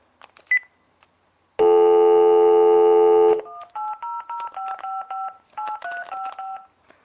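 A handset clicks, then a steady telephone dial tone hums for about two seconds before a quick run of roughly a dozen touch-tone dialing beeps, clear, as a test call is dialed.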